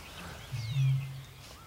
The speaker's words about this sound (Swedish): Men rördrommen har intagit solistrollen. Och vi har den så nära ut i Vasshavet här så att man hör inandningarna.